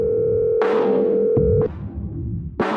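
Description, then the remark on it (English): A steady, droning telephone dial tone after a phone call drops holds for about a second and a half, then cuts off, with a few sharp bursts of rustling noise over and after it. “The phone call drops.”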